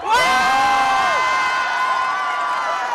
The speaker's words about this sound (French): Une immense explosion de joie parmi la foule accueille le nom du cardinal Joseph Ratzinger. Les Romains ont un nouvel évêque, Benoît XVI. Les drapeaux du monde entier s'agitent dans le ciel. Ici et là, on s'embrasse, on se félicite.